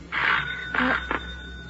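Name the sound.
doorbell ringing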